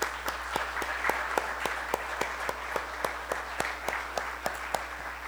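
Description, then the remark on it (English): A church audience applauds steadily to honour the work of those who came before them, many hands clapping in a dense, even wash with a few sharper individual claps standing out at a brisk, regular pace. No one speaks over it. “And we, here today, God's present, as we carry on the legacy of those before us, I think that we need to just take a moment and to applaud the work of those who were before us.”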